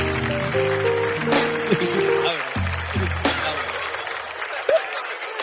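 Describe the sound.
A crowd applauds steadily with dense clapping, mixed with cheering voices and a held tone early on; a few sharper bursts cut through before the clapping thins out near the end.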